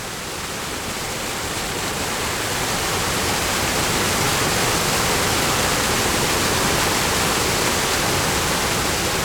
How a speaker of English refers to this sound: Leaving the bridge, you follow the path that allows you to stand directly under the waterfall.